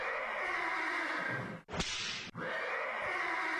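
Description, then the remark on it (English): A horse, recorded years ago in a studio in Manhattan, neighs through a dense, continuous wash of noise, broken midway by one loud, sharp whip crack and a brief dip before the commotion resumes. “That was actually Ed the horse, who we had taped this years ago in a studio in Manhattan”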